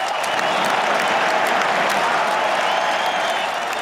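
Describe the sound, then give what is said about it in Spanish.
A sustained ovation for tennis player Carlos Alcaraz from a large crowd at a bullfighting event, dense clapping that stays loud and steady throughout with no pauses or voices standing out. “Gran ovación para Carlos Alcaraz, para los rostros conocidos que admiran a los toreros y se lo hacen saber.”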